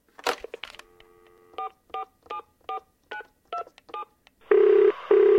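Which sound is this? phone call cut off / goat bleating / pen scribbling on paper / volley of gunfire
phone call cut off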